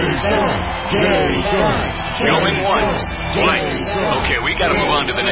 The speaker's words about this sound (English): Cheering crowds surround you, calling out your name.